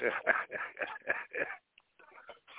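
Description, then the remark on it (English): A small 17-pound dog whimpers in a quick series of short, strained cries, then trails off into fainter, softer whines after a brief pause; the dog does not want to go outside. “And what y'all hear is me yelling at my 17-pound dog because he's an asshole and he doesn't want to go outside.”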